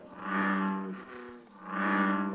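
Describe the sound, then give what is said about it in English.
An American bullfrog gives two deep, droning calls, each a long, buzzy, low-pitched groan that swells and fades, separated by a short dip. No one talks. “And the American bullfrog sounds just like a lightsaber.”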